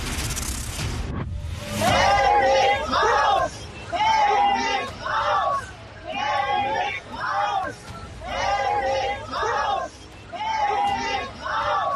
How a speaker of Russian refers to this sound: Стараясь сделать так, чтобы на Западе забыли, кто спас Европу от фашизма, Мельнику, который возлагал цветы к памятнику советскому солдату в Тигартене, вслед кричали «нацисты» и пошел вон.